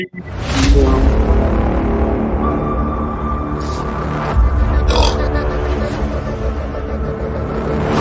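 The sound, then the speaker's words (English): A long, loud, drawn-out burp, made on purpose, a low gravelly rumble that keeps going for several seconds with a few rougher bursts along the way. “Who burped?”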